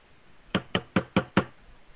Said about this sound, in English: That was a nice knock sound effect. Thank you. It's almost as though I have a wooden desk.